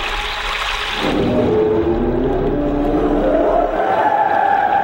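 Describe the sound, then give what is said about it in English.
A loud, drawn-out whale call moans and warbles with slowly rising and falling tones over a constant deep, watery rumble, filling the whole stretch with no talking. “No more whale! You can't speak whale!”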